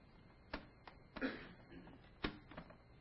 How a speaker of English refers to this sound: There's a trick to opening this drawer here. There it is.